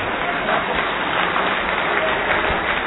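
Steady, dense applause from an audience fills the whole stretch, a continuous wash of many hands clapping at an even level with no pauses.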